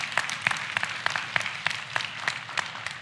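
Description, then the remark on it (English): An audience claps steadily, individual hand claps popping out in a brisk, uneven rhythm over a dense wash of applause at moderate loudness, with no one speaking. “You're clapping because she's Puerto Rican like you, huh?”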